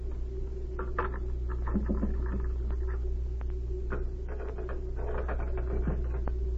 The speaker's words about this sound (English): I'll look through his desk first. It's locked. Perhaps one of these skeleton keys Z gave me will work.